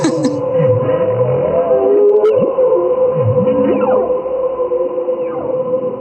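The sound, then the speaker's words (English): Underwater, a dense, low, crackling fish chorus rumbles steadily beneath long, sweeping humpback whale moans and whistles, all sustained at an even loudness with no voices. “so intense that you can actually hear them while the humpback whales are chorusing, and they're actually, at some point, you can hear them over the humpback whales, which, considering, you know, the size difference, it's a big feat for a little fish.”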